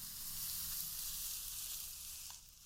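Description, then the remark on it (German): A woman combs her own hair in an hour-long YouTube video, with a steady, soft bristly hiss that runs almost unbroken, no voices, and eases slightly toward the end. “Eine ganze Stunde lang werde ich ihr zuhören können, wie sie sich die Haare kämmt.”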